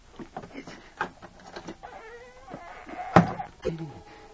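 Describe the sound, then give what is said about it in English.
A wooden trap door creaks open, ending in a sharp knock and a smaller bump just after, with muffled voice-like sounds around it. “There's the trap door.”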